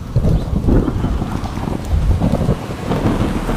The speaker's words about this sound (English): 5 days, the hurricane howled with demonic force day and night. There was no bird song, and even the insects were still. The only sound was the roar of the wind and the lashing of the rain.